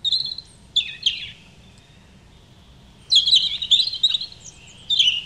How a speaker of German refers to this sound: Also ein Vogel ist es eindeutig. Also das ist sehr schwer. Es ist ein Rotbrüsti, der tut so... So wie Lachen. An dem kann man sich das jetzt irgendwie gut merken, dünkt es mir.